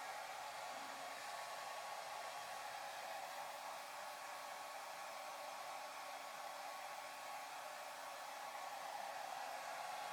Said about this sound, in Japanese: では最後にドライヤーで乾かしましょうか。根元から丁寧にと。